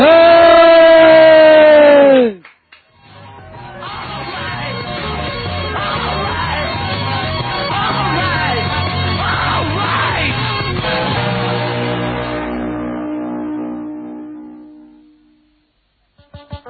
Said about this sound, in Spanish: Tenemos que pegar todos un grito, que aquí estamos palmando los pingüinillos y queremos dar un grito, pero que se oiga bien.